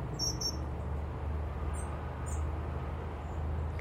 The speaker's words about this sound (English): Yeah, I think they're, it's a mixture of blue tits and great tits. Usually they don't flock like that though.